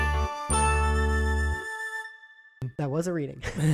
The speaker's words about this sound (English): Sorry, my phone has been blowing up. I've noticed that.